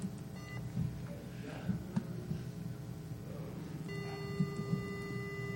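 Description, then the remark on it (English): A steady, high-pitched electronic beep tone sets in partway through and holds to the end, layered over a low, throbbing mechanical hum that runs the whole time. No one speaks. “That's a really annoying beep, yeah.”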